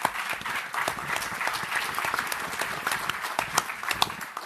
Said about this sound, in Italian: Voilà l'équipe, on peut l'applaudir, je pense.